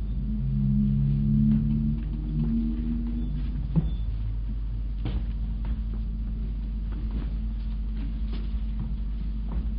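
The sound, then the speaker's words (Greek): A door is unlocked and opened: a few sharp clicks and knocks from the lock over a steady low hum, with a brief tonal creak at the start and no one speaking. “Άνοιξε ή σπάζω την πόρτα!”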